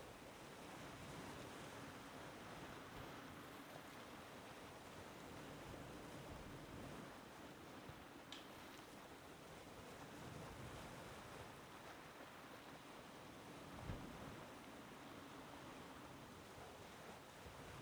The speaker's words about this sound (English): Hear the gentle waves breaking. Lapping up onto the shore.